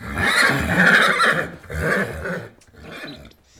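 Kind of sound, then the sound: animal, horse snorting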